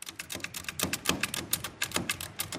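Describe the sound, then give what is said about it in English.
A small manual metal Braille writer that needs no electricity, resembling an old-fashioned manual typewriter, is typed on in a quick, uneven run of sharp mechanical clacks, about fifteen keystrokes, moderately loud with no voices. “This is our version, which looks a little bit crude. It's like a small version of an old-fashioned manual typewriter.”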